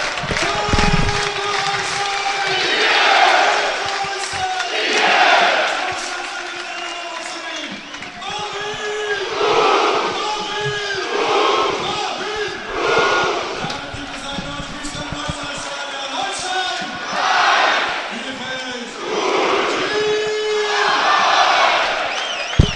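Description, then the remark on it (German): A large football stadium crowd roars and chants in sustained waves while the amplified stadium announcer's voice calls out over the din, celebrating Holstein Kiel's goal to make it 1-0, the cheering loud and continuous throughout. “Ja, nachdem ihr jetzt ja diesen überbordenden Jubel von Stadionsprecher und Tribünen hier gehört habt, steht der Anstoß nach dem Treffer bereit.”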